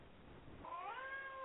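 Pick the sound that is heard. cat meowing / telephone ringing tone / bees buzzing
cat meowing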